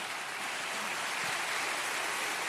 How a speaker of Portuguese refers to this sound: vou pedir que você dê uma salva de palmas para a Flávia